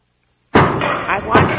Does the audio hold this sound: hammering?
yes